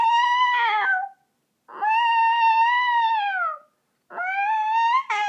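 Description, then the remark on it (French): A cat meows three times in a row behind a door in a dark cellar, long drawn-out and insistent, each call loud with short pauses between them and no voices around. “Je miaule deux ou trois fois derrière la porte.”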